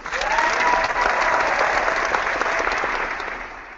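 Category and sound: crowd, crowd applause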